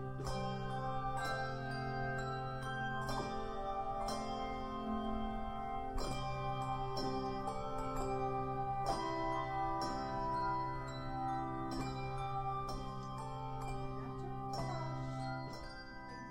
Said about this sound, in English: Do you play bells? Yes. So it's almost like a outreach, too, that we've done with the bell choir.